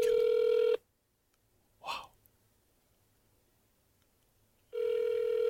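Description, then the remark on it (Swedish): A steady telephone ringback tone sounds during a call to Jennifer Lopez, then a long pause broken by a brief soft breath or click, before the same ringing tone returns at the end. “Nej, hon ringer. Hon ringer.”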